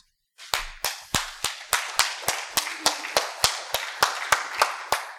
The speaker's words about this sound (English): Perfectly okay to applaud here.